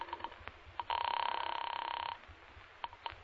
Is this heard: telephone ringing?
yes